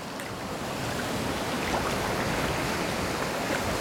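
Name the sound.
ocean waves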